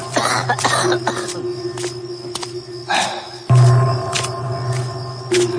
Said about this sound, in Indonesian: Suara batuk itu seakan lebih mendekat. Semakin dekat denganku.